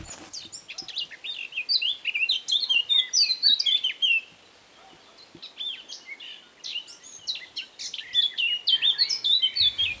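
A male blackcap, sitting low above the ground in dense growth, sings in two bursts: busy, scratchy twittering that turns into clear, fluting whistled phrases, with a short pause midway. No voices, just the bird over a soft background hiss.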